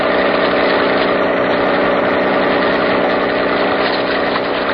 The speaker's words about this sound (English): Oh, please, could you not make this boat go faster?